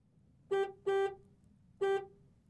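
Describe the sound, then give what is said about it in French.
A truck horn honks three times: two quick blasts in succession, a short pause, then one more. The honks are loud, over a faint low rumble. “Voici le camion.”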